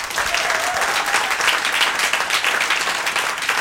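Steady, loud applause from an audience at an ARD Buchlounge event in a Literaturhaus, many hands clapping in a dense continuous patter that holds at the same level throughout, with no voices standing out.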